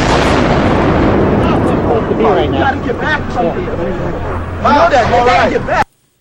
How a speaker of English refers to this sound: you hear a massive explosion